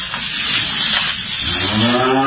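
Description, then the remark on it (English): A single loud cow moo swells in the second half, deep and drawn out with strong harmonic tones, over a steady outdoor background hiss; the cow is a female about 18 months to 2 years old at Skylands Animal Sanctuary in Wantage, New Jersey. “Yeah, I mean, this cow would be probably 18 months to 2 years old.”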